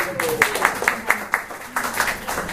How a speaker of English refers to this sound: Let's give her another clap.